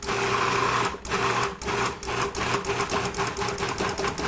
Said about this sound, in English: Now, turn it on. Now, I'll tell you a secret about blenders here. If you pulse a blender, it does a better job. Just like that.